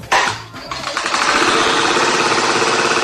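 A loud, rattling mechanical drone from a fan kicks in abruptly and runs steadily throughout, a harsh buzzing that sounds much like a lawn mower engine running.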